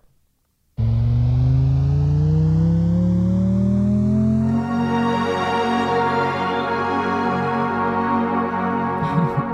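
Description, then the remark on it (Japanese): An engine-like hum built from a human voice rises steadily in pitch for several seconds, then shifts into a denser, layered drone that holds loud and continuous until a faint rattle at the end. “これは前半部分はエンジンの音に近いと思うんですけど、これ実は人の声で作っていまして、 いやこれがびっくりですよね。”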